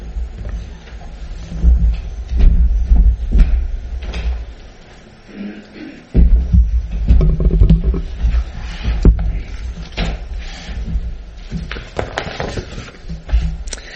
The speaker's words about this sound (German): Es ist ein kräftiges Gewitter, es ist abends, es ist schon dunkel. Ich stehe auf dem Balkon, und wenn ihr euch das vorstellen könnt, so ein Plastikdach, und dann ist da dieser prasselnde Regen und dieses Gewitter und Donnern